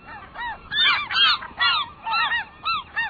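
Herring gulls calling in a loud series of harsh, yelping cries, several overlapping bursts in quick rhythm with no talking.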